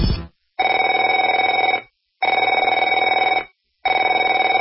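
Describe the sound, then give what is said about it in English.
A telephone rings in loud, steady bursts, each lasting about a second and a half, separated by short silences; a brief burst at the start is followed by three full rings with no talking. “Afraid to answer it?”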